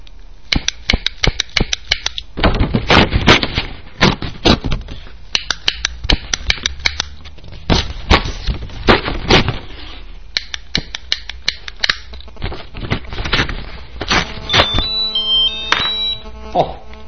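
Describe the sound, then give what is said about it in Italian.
Rapid clicking and flicking sounds from a lighter's wheel and a Tele 2 subscription postcard being snapped play a rough rhythmic rendition of Johann Strauss's waltz On the Beautiful Blue Danube, by Radio Cybernet, ending in a few brief tonal squeaks. “di un valzer di Johann Strauss sul bel Danubio blu di Johann Strauss per accendino e cartolina di abbonamento di Tele 2 ad opera di Radio Cybernet.”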